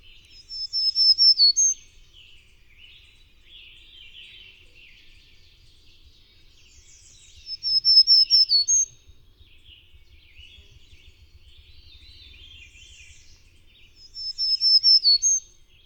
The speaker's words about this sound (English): Many warblers have two song types, one given right at dawn or during aggressive encounters, and the other given throughout most of the day. The black-throated green warbler's normal daytime song is a spirited see-see-see-see-Susie.